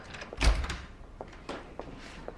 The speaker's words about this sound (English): Mrs. Penny opens the office door and Ruby enters.